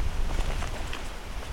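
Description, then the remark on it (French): Wind blows steadily outdoors, a continuous rushing noise with a heavy low rumble buffeting the microphone throughout, moderately loud, with no voices. “Et le pouillot vélo se fait entendre dans le vent.”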